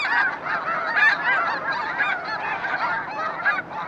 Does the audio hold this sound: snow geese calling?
yes